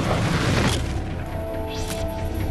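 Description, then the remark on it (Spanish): A single pistol shot, fired by an attacker at a woman, booms out sharply, then decays into a low rumbling tail over steady background noise. A faint whistling sweep follows a moment later, and no one speaks. “Finalmente, su agresor sacó una pistola y disparó contra ella.”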